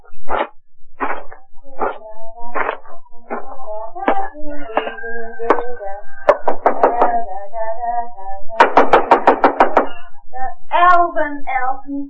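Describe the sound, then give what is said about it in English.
Rapid raps on a door come in several insistent, loud bursts, with a steady run of musical tones playing underneath throughout. “stop that. Don't be knocking.”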